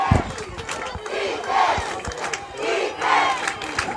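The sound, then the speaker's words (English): A large crowd at an American football game roars and cheers continuously, with the home fans up on their feet, a dense wash of many voices swelling in waves with scattered louder shouts rising above the din. “And the crowd down on our side, Crusaders crowd up on their feet right here.”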